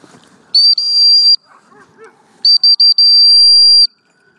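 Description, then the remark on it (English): A loud, shrill whistle is blown to call a dog: one long blast, a pause with faint rustling and movement, then three quick short pips followed by another long sustained note. “I've got the whistle ready.”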